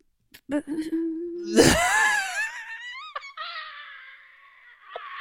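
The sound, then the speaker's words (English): A woman's voice imitates a phone going dead: a steady low hum, then a loud breathy burst sliding into falling, wavering tones, ending in a thin nasal buzz. “Oh, so when she hasn't queued up a noise of a phone going dead, she tries to do the noise of the phone going dead.”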